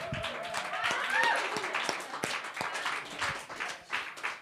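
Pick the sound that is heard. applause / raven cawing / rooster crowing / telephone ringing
applause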